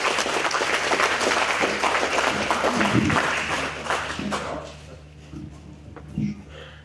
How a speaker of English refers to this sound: Thanks for the time, folks, and good round of applause.